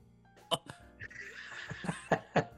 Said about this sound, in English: And he's over here coughing. Hit the cough button.